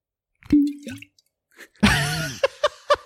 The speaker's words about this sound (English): Did you just start drinking? That was me opening a bottle of Old Elk.